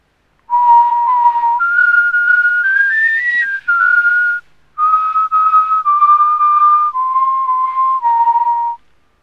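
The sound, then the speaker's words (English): People whistle a clear melody of sustained steady notes that step up and down in pitch, with a short pause midway, and no talking. “Can they whistle?”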